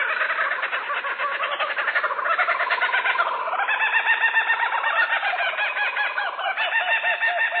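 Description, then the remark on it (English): A laughing kookaburra of Australia calls throughout: loud, rapid cackling and chuckling notes that rise and fall in rolling bursts, likely several birds chorusing together, with no talking. “This oddly familiar, crazed laughter belongs to the laughing kookaburra of Australia.”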